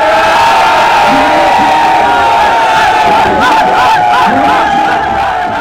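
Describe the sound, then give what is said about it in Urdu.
A large crowd at a local government election campaign rally roars steadily for several seconds, many voices shouting and cheering together over a dense wash of noise that may include applause, loud and continuous throughout. “تالیوں کے شور میں ایسے وعدے آپ نے 31 اکتوبر اور 19 نومبر سے پہلے سنے ہوں گے.”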